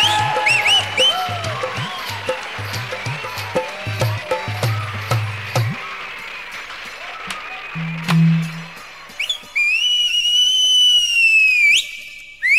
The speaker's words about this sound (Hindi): ये सीटी क्यों मार रहा है?